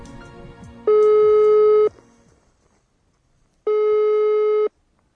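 A telephone ringback tone sounds twice as a radio programme phones a 15-year-old boy from Saratov, each steady electronic beep lasting about a second with a long pause between, loud, over faint background noise.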